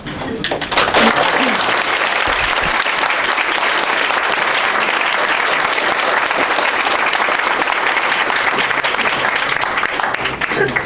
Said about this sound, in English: Judge Corum said in response to that, quote, "I don't always get clapping."